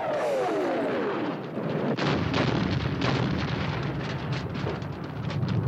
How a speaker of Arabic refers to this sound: ها يا لطيف يا لطيف، شو هالأصوات؟ والله شنها ثلاث انفجارات ورشقات نارية. الله، الصوت من جهة المطار.